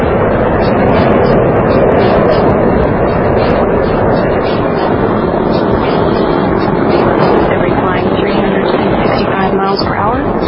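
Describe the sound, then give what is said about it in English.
A massive, continuous rocket-engine roar from space shuttle Discovery launching from Kennedy Space Center toward the International Space Station, engines throttling down through maximum pressure at one and a half miles altitude, loud and steady throughout, with thick rumbling low end and a harsh crackling hiss layered on top. “Discovery's engines are throttling down as the orbiter passes through the area of maximum pressure on the vehicle.”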